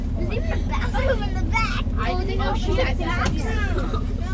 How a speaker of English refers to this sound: Later, on the bus to Austin, the kids relax.